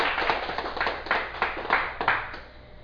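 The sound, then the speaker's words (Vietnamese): An audience breaks into applause when a Dharma talk titled Niềm Vui Vô Tận (Endless Joy) is introduced, a dense wash of many hands clapping together that swells and eases in waves for a few seconds, fairly loud and with no voices over it. “Xin quý vị vỗ cho một tràng vỗ tay.”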